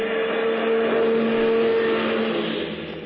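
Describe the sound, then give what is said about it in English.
One of Hubert's big, long cars, driven out of a driveway by a chauffeur, runs steadily with a low, sustained engine hum that rises slightly, as if pulling slowly away, before easing off near the end. No one speaks. “The chauffeur is driving one of Hubert's cars out. Gee, it's one of them big, long cars of Hubert's.”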